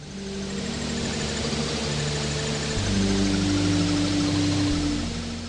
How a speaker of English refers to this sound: that background sound is more rich, broadband, wideband sound, noise-like sound, but it actually sounds a bit like music